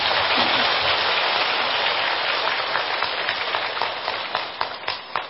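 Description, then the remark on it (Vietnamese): A crowd at an award ceremony held by the Buddhism Today Association applauds the announced award winners in a dense, steady wash of clapping that gradually thins out, leaving a few scattered individual claps toward the end. “Please give a big applause to them.”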